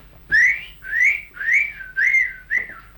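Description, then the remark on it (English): Someone whistles five short, swooping notes in a steady, evenly spaced rhythm, fairly loud, to call horses, with no talking around it. “How would you call the horses? Well, always whistle to them.”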